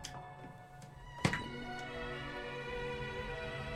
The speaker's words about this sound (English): We have a very complex system for opening the front door here.